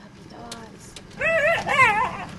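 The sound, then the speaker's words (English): Two abandoned dogs, a white shepherd mix and a Great Pyrenees, whimper and whine inside a duplex on Dumaine Street in Mid-City as Louisiana SPCA workers arrive to remove them: two drawn-out, wavering cries, moderately loud, with a few fainter yips beforehand over a low background rumble. “Two women in midnight blue uniforms, on their backs the large white letters, Louisiana SPCA, approach the front door of a double or duplex with instructions to remove two abandoned dogs.”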